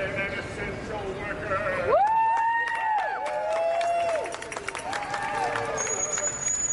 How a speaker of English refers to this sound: It started to attract a crowd down on the street now.